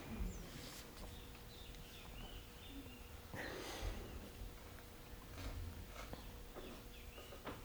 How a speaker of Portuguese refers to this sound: No, the birds also, they got ecstatic now. Agora os pássaros também ficaram extasiados.